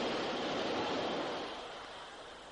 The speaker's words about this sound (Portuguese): ¡Oh! ¿Nota la brisa del metro? ¡Qué sensación!